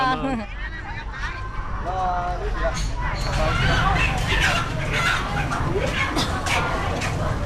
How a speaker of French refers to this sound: Ah, vous entendez un coq au loin, mais on est bien au marché aux poissons et aux crustacés.